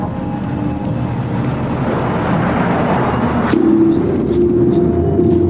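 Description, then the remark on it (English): A taxi's engine hums and rises as it pulls into road traffic behind a silver Mercedes leaving a parking garage, amid steady traffic noise, with a horn-like tone sounding briefly partway through; no one speaks. “As Gavin's silver Mercedes edges out, the taxi pulls into traffic behind it.”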